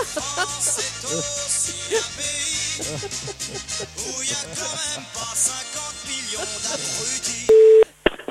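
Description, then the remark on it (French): Music plays for several seconds, then cuts to a single short, loud, steady telephone ringing tone, followed by near silence; the ring of a live on-air phone call to Michel Sardou on the Europe 1 radio station. “Ça, c'est la sonnerie, ça.”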